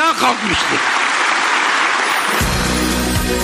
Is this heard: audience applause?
yes